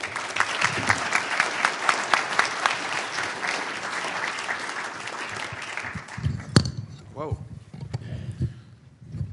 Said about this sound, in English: Please give a warm hand to the Wall Street Journal's Paul Gigot.